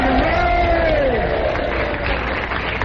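A crowd cheers loudly and steadily for the gang from the Red Garter, with a few voices whooping and hollering above the mass of noise, one long rising-and-falling yell standing out early on.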